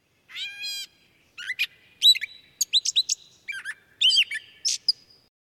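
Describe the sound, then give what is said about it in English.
A songbird, like a yellow warbler or gray catbird, sings from the tops of uprooted tree roots, a varied run of chirps, squeaky whistles and a mewing note, in quick separate phrases with short pauses, clear with no voices. “In the warmer seasons, watch and listen for birds like yellow warblers and gray catbirds singing from the tops of the tip-ups or flitting around these roots.”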